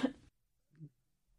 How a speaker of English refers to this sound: What was that? I just coughed. Why? Because my throat was kind of itchy.